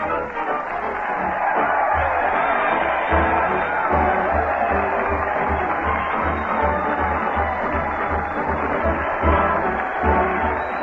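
A large crowd at a street parade on Main Street cheers and roars without letup for comedian Fred Allen as he leads the parade and band toward the old Town Hall. A dense wash of voices carries a faint low thumping pulse beneath.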